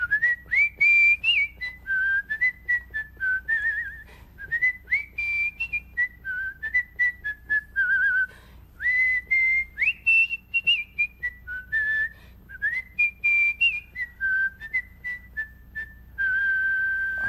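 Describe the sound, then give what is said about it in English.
A woman whistles a lilting melody by mouth without any whistle, clear, with pitched notes gliding up and down in short phrases and brief pauses between them, no talking. “She didn't need any of those whistles to put in her mouth.”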